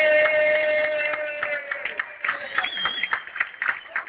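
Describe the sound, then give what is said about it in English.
A crowd of Kansas City supporters at a football game claps steadily in a dense patter of hand claps, with sustained cheering voices mixed in. “Who are we clapping for?”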